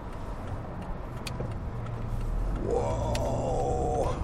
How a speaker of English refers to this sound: I don't know if you can hear the cars rushing past, but there's probably 60 cars going and a gap in the traffic going afterwards.